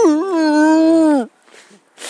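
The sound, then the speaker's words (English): A person mimics how the dog Banter would whimper instead of going woof woof, with one loud, drawn-out, wavering whine lasting about a second, then it cuts off to near silence with faint breathy noises. “He wouldn't be going woof woof.”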